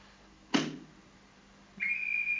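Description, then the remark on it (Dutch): A short burst of noise, then a shrill, steady train conductor's whistle sounds, holding one high note without a break until the end. “Ja, fluit.”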